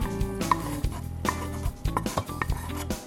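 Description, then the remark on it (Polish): Someone gently stirs boiled potatoes with fat and cracklings in a pot, with repeated soft scraping and clunks of a spoon against the metal, and no one talking. “I wszystko delikatnie mieszamy.”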